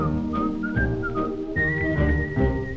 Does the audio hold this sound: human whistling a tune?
yes